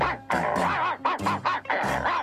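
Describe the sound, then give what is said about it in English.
A dog barks excitedly while chasing a robot cat, a rapid run of four or five loud, drawn-out barks with no talking over them. “Yeah, no more walking the dog. He's getting lots of exercise.”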